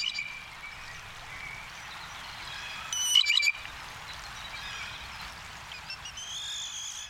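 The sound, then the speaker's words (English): A jay gives its squeaky, creaking pump-handle call, a short burst of rising and falling notes like an unoiled water pump, over a steady hiss of background noise with fainter calls later. “Here's something from the Jay Top 40, the pump handle. Notice how much it sounds like one of those old-fashioned water pumps, up and down, and needs to be oiled.”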